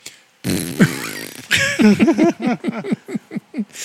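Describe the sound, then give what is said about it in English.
A voice blows loud, sputtering mouth fart noises: one long buzzing raspberry followed by a quick run of short, wobbling pops, alone with no talk. “And his mouth farts.”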